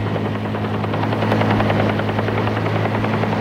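A helicopter arrives at a modern clinic's private landing pad, where an ambulance already waits; its steady rotor thump and engine drone are loud, with rapid rhythmic blade chopping over a constant low hum and no voices.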